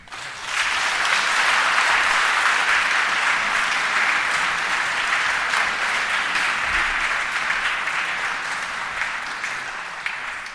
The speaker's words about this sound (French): Ces applaudissements viennent saluer la remise de l'épée par l'académicien Marc Fumaroli à René Girard, une épée de cour qui date du XVIIIe siècle.